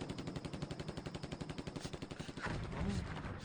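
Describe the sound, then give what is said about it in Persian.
Rapid, sustained machine-gun fire rattles off in a steady stream of sharp cracks, bullets flying overhead during a military operation, then gives way to a louder, rougher wash of noise like heavier shooting and explosions. “حاجی با تو هم از سرمون به گلوله.”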